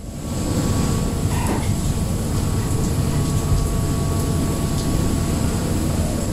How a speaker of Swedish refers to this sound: Regnet slår mot däcket på det nederländska fartyget Pelagia